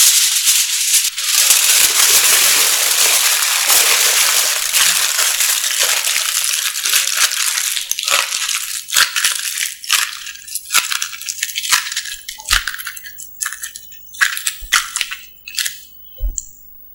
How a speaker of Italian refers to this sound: Qui ci sono due fogli identici di carta di alluminio da cucina. La massa dei due fogli, dunque, è la stessa. Ora li appallottoliamo.